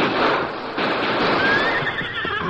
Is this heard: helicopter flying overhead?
no